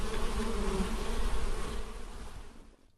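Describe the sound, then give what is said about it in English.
A dense, steady hum of many honeybees buzzing around an urban beekeeper's hives in Canberra, a continuous droning swarm that holds for a few seconds before thinning out and fading at the end. “Just keep an eye out for a guy with a mohawk and lots of beehives.”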